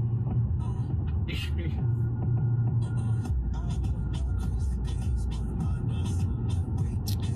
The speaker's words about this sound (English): First of all, poor choice of music in the car. Gentlemen. That's what I was about to say. They start hitting you with that booty bass at the end.